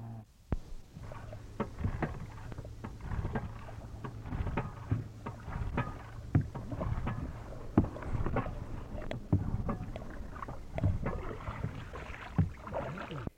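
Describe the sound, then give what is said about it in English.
A canoe's outboard motor hums steadily as a man sets off alone in it toward a sighted seal, while water slaps and knocks against the hull at irregular intervals. No one speaks. “After we'd sighted the seal again, Mike put into the canoe with the outboard motor and set off on his own in the direction where it was.”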